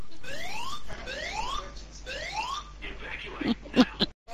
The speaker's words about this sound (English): So we're about to get sirens and things, so here we go. Ah, okay. There you go. Hear that?